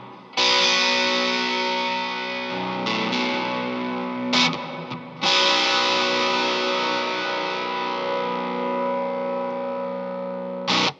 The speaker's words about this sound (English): with that reverb and the kind of gnarly overdrive you've got going on there